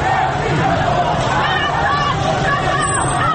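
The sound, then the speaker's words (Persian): A protest crowd in front of the Meghdad base, the Basij command headquarters in Tehran, shouts scattered slogans over a loud, dense roar of many overlapping voices that stays steady throughout, with no single voice standing out clearly. “جلوی پایگاه مقداد که مقر فرماندهی بسیج تهران است، شعارهای پراکنده مردم سکوت را می شکند.”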